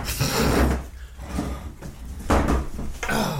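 A wooden chair scrapes and creaks as it is shifted about, with two louder grinding bursts and rustling knocks in between, no voices present.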